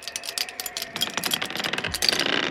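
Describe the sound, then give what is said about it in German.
Metal keys jangle and clink in a quick, irregular flurry of bright clicks and rattles as they are handed over, fairly loud, continuing steadily for a couple of seconds with no voices. “So, dann gib mal die Schlüssel”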